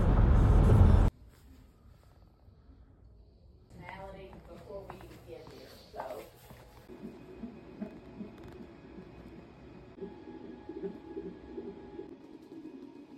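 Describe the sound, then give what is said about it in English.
Inside a car just after getting in: a loud burst of rustling or handling noise at the start, then a quiet cabin with a steady low engine hum, faint muffled voices, and small clicks and movements. “So from all of that, we just got in the car.”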